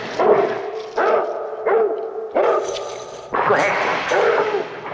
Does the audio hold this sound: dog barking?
yes